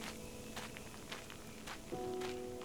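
Footsteps crunch on pebbles underfoot in a slow, steady walking rhythm, four or five gritty steps, with a faint steady tone entering near the end.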